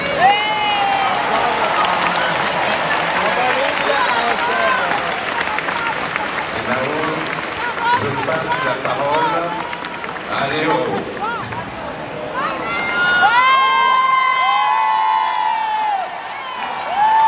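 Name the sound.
audience applause and cheering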